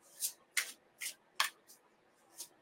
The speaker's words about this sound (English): I'll actually shuffle because I'm doing some readings with you today.